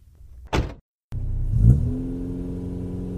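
A sharp burst, a brief silence, then a car engine catches and revs up with a rising growl before settling into a steady, loud droning hum as it pulls away.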